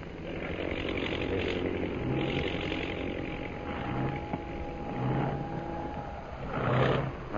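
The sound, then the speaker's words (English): A propeller plane that has dropped out of a formation circles for a landing. Its engine drones steadily, the roar swelling and easing several times with a faint high whine running through it. No one speaks. “That plane in center of formation. Oh, yes. Is dropping out of line and circling for a landing.”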